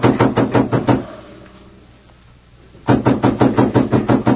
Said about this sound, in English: A moment later, footsteps sounded across the veranda, and someone knocked sharply on the door.